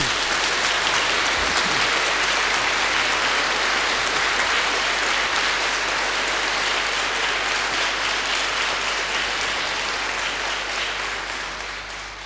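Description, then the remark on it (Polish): A large church audience applauds steadily for their parish priest, who was named a canon of the cathedral chapter by the bishop, a dense, loud wash of many hands clapping that holds for about twelve seconds before tapering slightly at the end, with no voices rising above it. “Brawo.”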